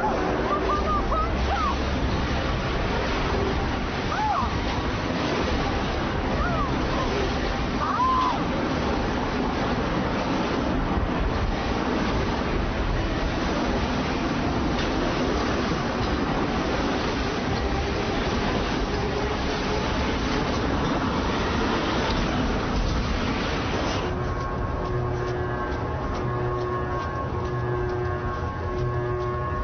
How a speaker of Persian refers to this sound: پرواره حرکت کرد. حرکتش مکانیکی. موتور روشن شد. موتور روشن شد.